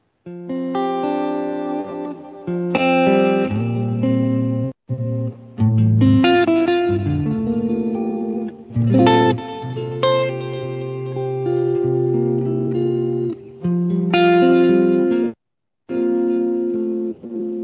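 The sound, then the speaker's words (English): Electric guitar played through a Gramatico amp model, with a warm, slightly overdriven tone, plays sustained melodic lead phrases, separated by short pauses and carrying a touch of echo and reverb. No one speaks. “So I think the good news is that you don't really need too many blocks to get great tones out of the Gramatico.”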